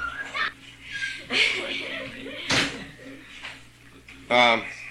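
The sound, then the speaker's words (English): A door swings shut with a single solid thud midway through, while people murmur and laugh softly in the background before and after. “Can we close that door?”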